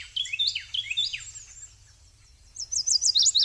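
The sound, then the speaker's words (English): A Carolina wren sings loud, rolling phrases of repeated bright whistled notes, a quick rhythmic burst, a brief pause, then another series, clear over a faint low background hum, in the understory of an eastern hardwood forest in May. “The rich notes of a Carolina wren carry through the understory.”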